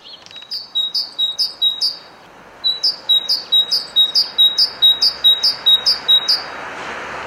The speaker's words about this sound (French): La mésange zinzinule.